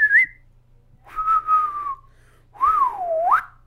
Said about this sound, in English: what's that little excited whistle noise you make?